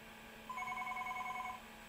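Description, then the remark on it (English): A single electronic telephone ring tone lasting about a second, a steady mid-pitched warbling burst with bright harmonics over a low background hum, with no voices. “Do you hear that? It's ringing.”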